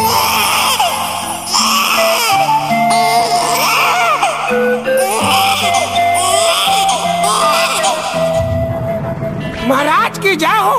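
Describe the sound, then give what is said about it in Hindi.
A newborn baby cries loudly and continuously in wailing, rising-and-falling bursts, over a steady background of sustained musical tones. “देखन हार देखत रह जाए, फटा पिंड किलकारी गूंजे।”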